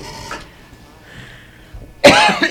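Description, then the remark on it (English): A single sharp, loud cough bursts out after a quiet stretch, preceded by a fainter throaty sound at the start; a host coughing on air on KPFA radio. “Excuse my coughing.”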